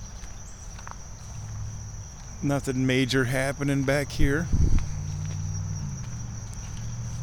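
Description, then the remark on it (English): Footsteps thud along a wooden boardwalk beside a pond in a steady walking rhythm, while a continuous high insect drone fills the background and a man speaks briefly midway. “Walking by the sub pond here, you can just see a couple frogs on sticks.”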